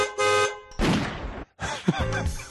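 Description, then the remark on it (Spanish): A car horn gives a short, loud honk, followed by a burst of rough, noisy sound from a gunshot and then more jumbled tonal noises, with no talking; a sound clip from a Disney film. “Pero hay un claxon y un tiro.”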